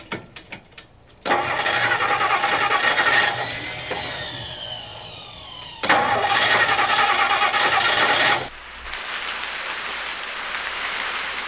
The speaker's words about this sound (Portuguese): Droga! Esse carro tinha que pifar logo agora!